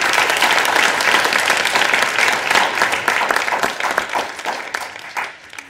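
Sustained audience applause fills the space, a dense wash of many hands clapping at steady volume before gradually thinning out and fading toward the end.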